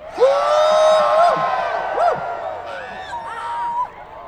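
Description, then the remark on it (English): Several people yell together at once after a count of three, loud, their overlapping voices rising and falling in long sustained shouts for about four seconds. “Let's all yell together.”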